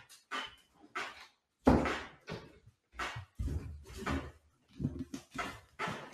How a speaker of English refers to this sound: Yeah, I had to close my door. I had to close the door because I can hear you're downstairs.